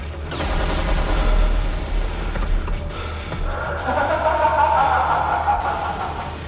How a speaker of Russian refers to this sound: Досадно закричал ЛР и вновь отскочил за ящики от новой пулеметной очереди.